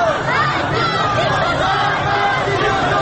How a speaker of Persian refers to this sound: جلوی پایگاه بسیج که مقر فرماندهی بسیج تهران است، شعارهای پراکنده مردم سکوت را می شکند. حالا دیگر مردم با دیدن بسیجیان مسلح روی پشت بام پایگاه بسیج خشمگین می شوند و شعارها تندتر و تندتر می شوند.